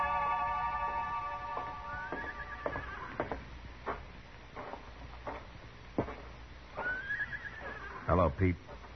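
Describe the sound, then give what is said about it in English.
A horse whinnies loudly in a stable, once early and again near the end, with shuffling thumps and knocks scattered between. “He might be in your stables.”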